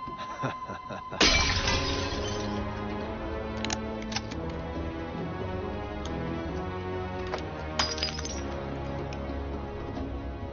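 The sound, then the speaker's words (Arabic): A glass bottle shatters in a bar with a sharp sudden crash, followed by a sustained ringing clatter and scattered tinkling of shards settling, with a couple of brighter clinks later on. “تناثر الزجاج في المكان.”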